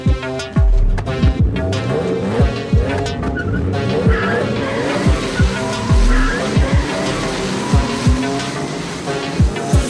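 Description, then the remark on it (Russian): Loud racing car engines roar and rev repeatedly at a night-time car gathering, with sweeping pitch rises and falls as they shift gears, joined by tire squeals, sustained for the whole stretch with no talking. “Слеты под покровом ночи, рев моторов мощный.”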